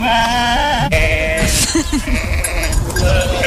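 Several sheep bleat loudly, overlapping wavering calls one after another, with a busy background of other animal noise and shuffling.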